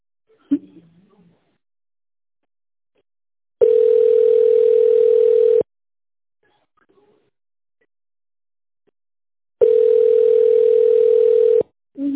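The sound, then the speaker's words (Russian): A telephone dial tone sounds twice, each a steady, loud, two-second hum separated by several seconds of silence, with a brief murmur of a voice at the start and end. “Я говорю, что телефон.”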